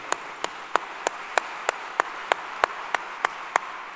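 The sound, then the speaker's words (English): Steady, evenly spaced clapping, about a dozen sharp claps at a brisk regular beat, over a constant soft hiss of background noise. No one talks. “Yes, clap it up for that.”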